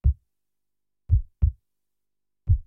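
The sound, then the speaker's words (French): A slow heartbeat, with deep, muffled low thumps spaced out in a lub-dub rhythm, fairly soft, with silence between the beats and no voices. “Tu les entends, mes battements de cœur?”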